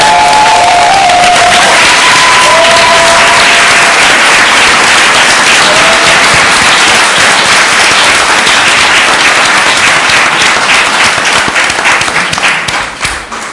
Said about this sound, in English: So thank you very much to all of our speakers. If we can give them a huge round of applause.